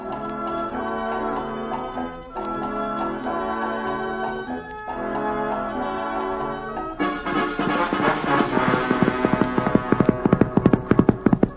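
A bouncy tune plays, then horse hooves start clip-clopping in a quick, steady rhythm over the music, getting louder toward the end: Reginald, the Wonder Horse, ridden by the cowhand Texas Jack up to the Bar Cheerio Ranch in Arizona on a hot day.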